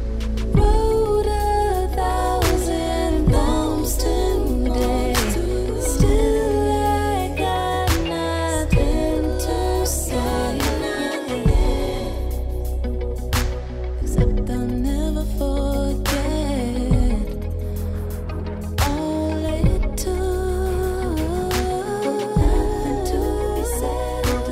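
A song, the closing track of an album, plays at a steady, full volume: layered sustained instruments and winding melodic lines over regular percussive hits, with a brief thinning of texture midway and no one talking over it.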